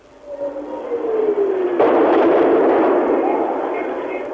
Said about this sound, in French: Elles ont raison, 2 nouvelles explosions font trembler les murs.